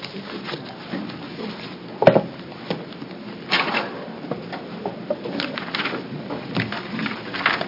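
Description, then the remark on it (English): A wooden chair is dragged and shuffled across the floor to add a fourth seat beside three others, with a sharp knock partway through and several scraping, bumping sounds. Moderately loud, with no one talking. “I know we only have three chairs up here, but if the four of you could find a way to maybe add a chair.”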